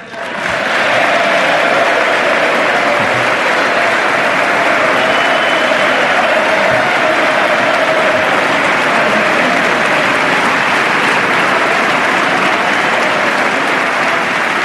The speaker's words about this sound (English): Even Vice President Biden just rose to applaud Speaker of the House, John Boehner.